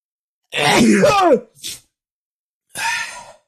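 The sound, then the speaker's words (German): A sneeze: a wavering, drawn-out vocal build-up, then a short sharp burst, followed after a pause by a groaning, moan-like voiced sound. “ich muss gleich schon wieder niesen, Alarm.”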